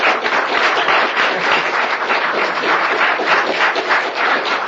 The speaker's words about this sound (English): In fact, I think we'll really give you a clap because you worked so hard.